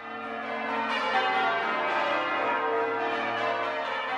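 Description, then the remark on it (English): Church bells ring out together in a dense, sustained peal, their overlapping metallic tones blending into a rich, steady wash of sound at even loudness throughout, with no voices. “Church bells still summon the faithful to the start of worship.”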